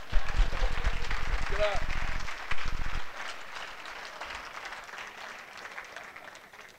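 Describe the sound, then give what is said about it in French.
An audience breaks into dense, steady applause for a mother of fourteen children, holding strongly for a few seconds, then gradually thinning and fading, with some voices mixed in beneath the clapping. “Ouais, il faut l'applaudir là.”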